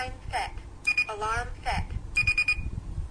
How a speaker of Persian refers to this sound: یعنی یکی بوق که بزنه سر ساعت خاموش میشه، یعنی دیگه سر ساعت ساعت رو اعلام نمیکنه، و دو تا که بزنه سر ساعت اعلام میکنه. دقیق این ساعت های گویای مچی که قدیما بود